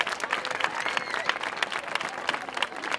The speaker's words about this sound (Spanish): Quiero felicitar también, venga, fuerte aplauso a San Bernardo, a la CLAP.